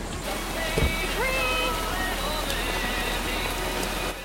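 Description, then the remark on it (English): Heavy rain pours down in a steady, dense hiss that fills the whole stretch, with a brief thud near the start and faint tonal sounds drifting underneath. “It's pouring rain outside.”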